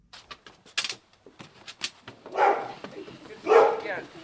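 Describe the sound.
Border collies, seven of them living at a log house in Washington's Tianaway Valley, bark in two loud, harsh bursts near the end, preceded by scattered short clicks and faint indistinct voices.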